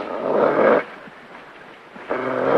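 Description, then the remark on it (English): A dog named Duke growls twice from inside a cage while baring his teeth, two loud, rough rumbling snarls separated by a quieter pause of a little over a second, with no voices. “The dog bares his teeth. He stares warily at Smitty through the cage door.”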